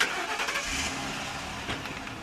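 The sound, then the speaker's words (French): A police car engine cranks and catches, then settles into a steady, fairly loud mechanical rumble with a brief surge partway through, with no talking. “Avec un beau moteur.”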